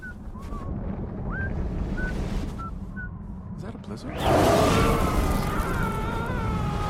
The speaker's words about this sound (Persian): آه طوفان یه دفعه پیدا شد مگه نه؟ نگران نباش، همینجا منتظر میمونیم، خوب و گرمه.